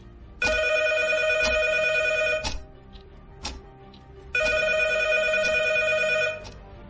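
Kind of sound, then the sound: household object, telephone ringing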